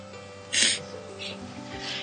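A sharp, breathy sniff through the nose bursts out, followed by a couple of softer sniffles, all against a low steady background hum.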